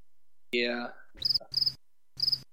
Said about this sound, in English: So I have a cricket sound effect loaded, but it's a... The crickets die. Yeah, it's not really loud at all.